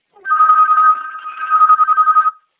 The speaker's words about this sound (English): There's a phone call. Somehow, I just feel I have to get it because there may be someone calling about the program.